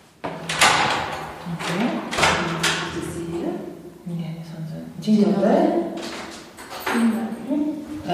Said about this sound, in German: Wir laufen die Treppe hoch bis ins oberste Stockwerk und klingeln. Allerdings an der falschen Tür. Dann öffnet hinter uns eine Frau.